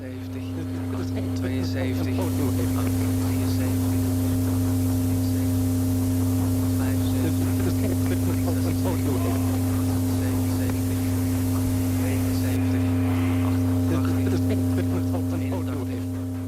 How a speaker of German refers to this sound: Das Brummen, Knacken und Rauschen, Geräusche, die im Radioalltag möglichst vermieden werden, in den Sendungen von Jupiter Larsen sind sie Absicht.